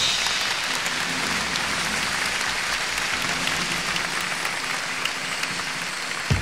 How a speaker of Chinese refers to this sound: 首先我要介绍的是我们香港的非常优秀的乐团，让我们以热烈掌声来欢迎 The Orchestra from Hong Kong。